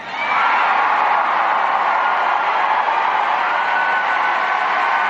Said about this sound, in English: And did you hear that applause for the Almighty God? Man, is that refreshing, instead of just the secular leftism that we have been seeing on television recently.